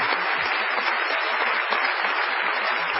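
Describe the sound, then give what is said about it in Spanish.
Sustained, dense applause from a large theater audience at the Teatro Español in Lomas de Zamora, an ovation greeting Patricio Barto, loud and steady throughout with a continuous wash of clapping and no voices standing out. “Vamos a saludar con una ovación desmesurada a Patricio Barto.”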